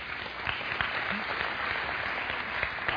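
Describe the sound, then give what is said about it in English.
An audience applauds, a dense, steady wash of many hands clapping at an even level throughout, with no voices rising above it. “I really didn't say that for the sake of your applause, but I wanted to point this out, that 9 years ago, I was 6'5", weighed 240, and had a full set of hair.”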